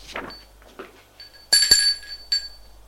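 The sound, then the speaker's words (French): A doorbell rings with a bright, metallic chime that holds for about half a second, then gives a shorter second ring, after a few soft rustling sounds. “On sonne à la porte.”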